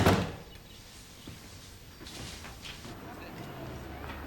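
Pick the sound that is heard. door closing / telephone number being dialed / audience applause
door closing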